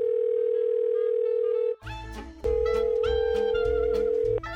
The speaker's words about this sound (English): I have some voicemails. And you know what that means? I get to play my song.